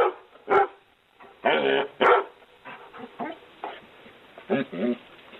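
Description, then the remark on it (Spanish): A dog barks in a newsroom in a loose series of sharp, loud yaps, with a couple of longer howling barks among them and quieter low sounds in between. “Incluso he tenido que llevármelo a la redacción para no llegar más tarde.”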